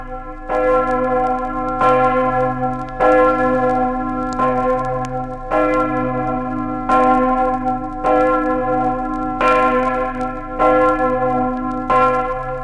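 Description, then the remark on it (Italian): The main bell of the parish church of Corto, a large church bell, tolls repeatedly in a steady rhythm, each deep resonant strike ringing out and overlapping the lingering hum of the previous one, loud with no voices. “Ne sia conferma la campana maggiore della pieve di Corto.”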